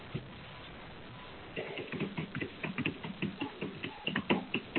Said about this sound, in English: I hear somebody typing loudly. So whoever is typing loudly, please mute yourself.